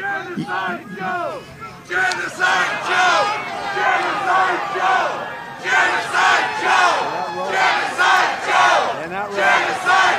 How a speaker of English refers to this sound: There's the campus left, River to the Sea crowd's nickname for Joe Biden, appearing at a chant at the Donald Trump rally this weekend.